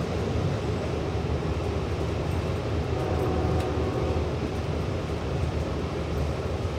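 A Long Island Railroad commuter train rolls steadily along the tracks in 2017, a loud, continuous low rumble with faint rhythmic clatter and rattling, heard from inside the car with no voices.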